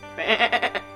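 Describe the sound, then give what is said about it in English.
A goat standing on a person's back during a yoga session lets out one loud, quavering bleat, its nasal cry wobbling in four or five quick pulses over about half a second, with nothing else sounding around it. “I got a whole goat on my back.”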